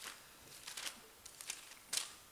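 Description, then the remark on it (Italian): Soft papery rustles and crinkles as pages are flipped, several brief scraping swishes over about two seconds, fairly quiet, with one sharper rustle near the end and no talking. “Lo vado a rileggere, non riesco più a girare le pagine.”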